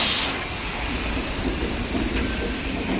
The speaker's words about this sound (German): Die Güterwagen sind parat. Von hinten kommt jetzt der Diesellok und schiebt die Wagen einen kleinen Hügel hoch. Auf der anderen Seite von dem sogenannten Ablaufberg rollen sie selbstständig wieder ab.